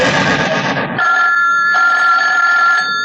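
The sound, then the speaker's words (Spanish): The private radiotelephone of the magnate Miklos Rogasis rings by his bed: a loud, harsh buzzing burst gives way to a steady, high electronic tone that briefly dips and resumes, sustained for about two seconds with no voices. “Simultáneamente desde su lecho, el magnate Miklos Rogasis levanta la bocina de su radioteléfono privado.”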